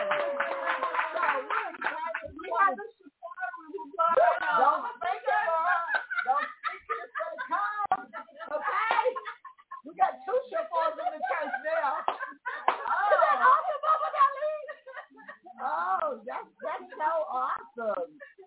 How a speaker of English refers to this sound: Come on, y'all. Can I get a hand clap? Amen. So we're excited.